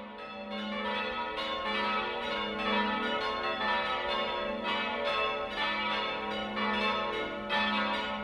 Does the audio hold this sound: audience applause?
no